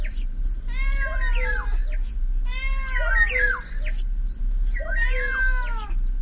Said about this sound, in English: Listen to the cuckoo in the distance and the cat between you and the stupid cricket. Hear them move around you.